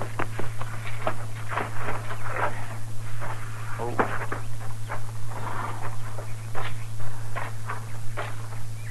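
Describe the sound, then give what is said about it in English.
Steady footsteps crunch along at a walking pace, fairly loud, as Marshal Dillon and Chester leave their horses and walk up, with a constant low hum underneath and no talking. “Let's leave our horses here and walk up, huh?”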